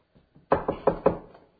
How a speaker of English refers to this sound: Here it is. They're knocking at the door again. Knocking at the door.